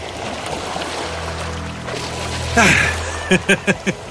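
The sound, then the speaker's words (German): Water sloshes and splashes as someone wades navel-deep through sea waves at a beach, with a louder rush of water midway followed by four quick splashes in a steady rhythm. “Ich stehe bis zum Bauchnabel in den Wellen und spüre das Wasser nicht auf der Haut.”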